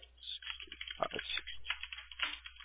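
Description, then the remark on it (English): Rapid keyboard typing as a text message is typed by hand, a dense run of light clicking keystrokes, steady but uneven in rhythm, with no voices. “My, like, pre-made text isn't working right now. That's so I'm just hand typing it.”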